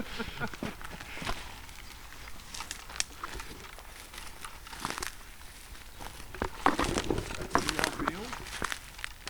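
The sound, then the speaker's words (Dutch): Footsteps crunch and rustle through dry undergrowth at a steady walking pace as people walk toward a pile of wood forming a beaver lodge, with crackling twigs and leaves under each step and occasional faint voices in the background. “Daar lopen we er naartoe.”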